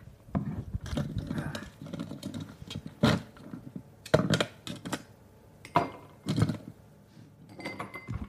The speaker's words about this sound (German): Das heißt, wir gönnen uns mal so einen kleinen Schluck Cold Brew einfach pur. Ich nehme uns mal hier jeweils ein so ein Glas mit Eiswürfeln. Jetzt sind die Eiswürfel festgeklebt. Klassiker.